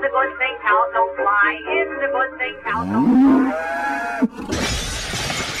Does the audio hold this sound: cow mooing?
yes